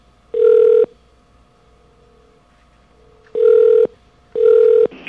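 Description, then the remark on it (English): A telephone ringback tone on a call to a phone menu line after pressing 2: three steady, mid-pitched electronic beeps, each about half a second, the first alone and the last two close together, over a faint hum with no talking. “It is ringing, but we'll go to another recording.”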